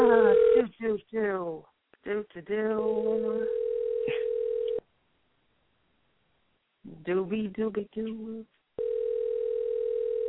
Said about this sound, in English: I'm going to try his cell phone, see if he's there.